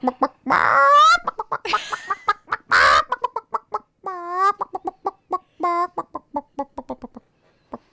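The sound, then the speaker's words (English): A person in a studio imitates a chicken, with rapid, choppy clucks and a few drawn-out squawks, fairly loud, thinning out into quick, scattered clucks toward the end. “I think there might be another chicken in here somewhere.”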